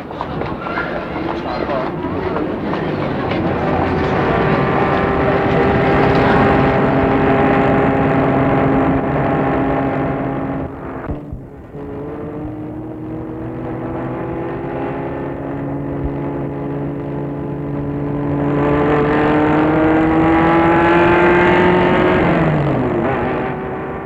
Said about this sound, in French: Fernand met sa voiture en route.